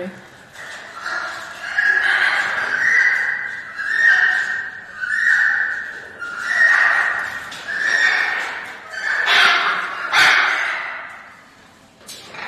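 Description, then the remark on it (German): An animal vocalizing during copulation: a loud series of about ten strained, tonal calls repeated in a steady rhythm, each rising and falling, with no pauses long enough to break the pattern. “Aber man geht eigentlich davon aus, dass das eine Kopulation kann sein kann.”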